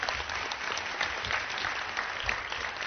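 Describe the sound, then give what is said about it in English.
Many people clap steadily, a dense, even patter of hands that holds at a moderate level throughout without voices breaking through, applauding four ENL staff members at a school event celebrating student achievement. “So they deserve a nice round of applause as well.”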